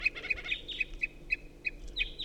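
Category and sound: bird, unidentified bird call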